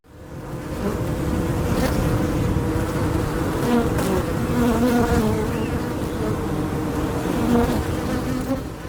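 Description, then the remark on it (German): A dense, steady swarm of honeybees buzzes continuously outdoors, a thick droning hum with shifting overlapping tones throughout, no voices present. “Jetzt, du bekommst gleich nicht mehr mit, wenn die beiden gestochen werden von den Bienen draußen.”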